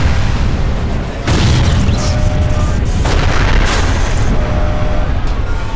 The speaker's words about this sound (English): The explosions were thunder that built upon thunder.